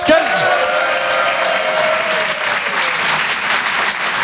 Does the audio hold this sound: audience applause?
yes